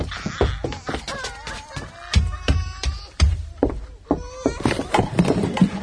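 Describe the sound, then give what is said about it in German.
Two babies crying in wavering, rising and falling wails, mixed with a steady clatter of sharp knocks and taps throughout. “Ach, von mir aus schreit weiter.”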